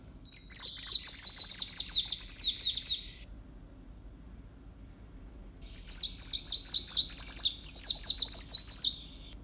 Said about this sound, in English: So these are greenish warblers that I'll be playing first from West Siberia. I'll play two songs.